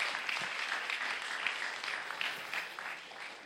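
A crowd claps steadily for a few seconds, a dense, even wash of many hands with no pauses, moderately loud throughout and fading only slightly at the end.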